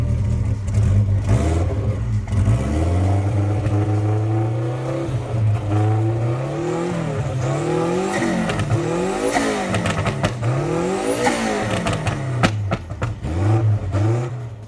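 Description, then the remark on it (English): A powerful twin-turbocharged, small-displacement V8 engine of a Lotus sports car revs hard and repeatedly, its pitch climbing and dropping in quick surges, loud throughout, with no voices. “On top of the V8 of the V8 engine, it was also twin turbocharged, and although it did not use the air-to-water intercooler, it had the ability to push out 500 horsepower.”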